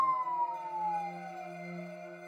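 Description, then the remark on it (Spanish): An ambulance siren wails with a single tone that slides slowly downward, fairly steady and moderately loud, as ambulances arrive at the scene amid chaos in the street, with no voices over it. “En medio del caos absoluto que reinaba en la calle, 11 ambulancias llegaron al lugar y trasladaron los cuerpos a la morgue para realizarles la autopsia.”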